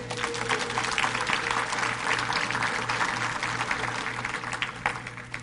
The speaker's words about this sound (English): All right, give them a big hand clap.